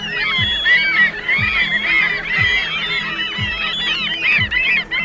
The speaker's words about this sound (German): Zum Vergleich, eigentlich hören sich Möwen so an.